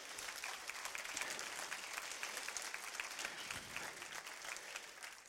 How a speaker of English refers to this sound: Somebody give God a hand clap of praise.